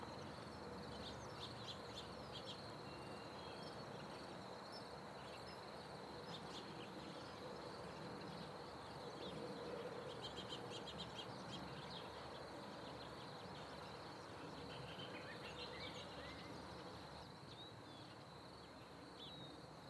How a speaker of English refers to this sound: Okay, we're now at La Paz, and this is going to be some wild track of early morning sounds. It's the quietest we've ever heard it here, so we'll see how much we can get.